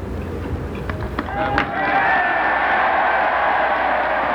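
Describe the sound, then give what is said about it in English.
After a second or so of scattered clapping, a huge crowd at President Kennedy's inauguration bursts into loud, sustained cheering as he takes the oath of office, a dense roar with shouts and whistles that holds steady to the end. “A great burst of cheering as President Kennedy takes the oath of office.”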